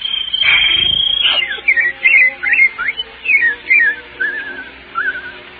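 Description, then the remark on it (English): Someone whistles an imitation of birdsong, opening with a long warbling trill and then a run of short, sliding chirp-like phrases, clear, with no talking. “Birds, Daddy, birds.”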